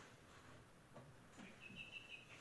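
A bird chirps faintly, a quick run of high, thin tweets arriving near the end over a soft background hiss. No one speaks.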